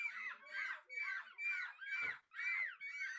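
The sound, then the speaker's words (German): Three children imitate seagulls at a seagull imitation championship in a pub in De Panne, mouths wide open, in a rapid series of about seven shrill, wavering screeches, fairly loud, each cry rising and falling with barely a pause between them. “Diese, es sind Menschen, die ihr Möwe da hört”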